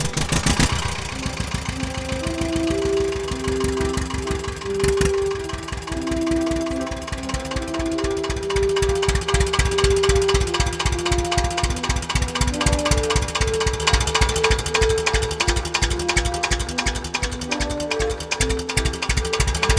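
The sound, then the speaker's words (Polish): An old tractor engine is started by the driver, who sits on the sprung seat and presses the starter once; it then chugs with a steady, rapid thumping idle that stays loud and even for the whole stretch, with no voices over it. “Traktorzysta siada, ekstra. O tak. I bardzo wygodne sprzęgło. Siedzenie bardzo na sprężynie, ładnie amortyzuje sobie. I ja mu tylko przycisnę raz.”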